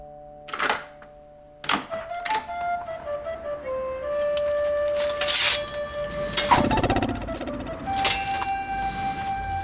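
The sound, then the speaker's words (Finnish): An electronic doorbell chimes in a sequence of clear, sustained tones that step downward in pitch, mixed with sharp clattering bursts and a fuller ring toward the end. No one speaks. “Ovikello soi.”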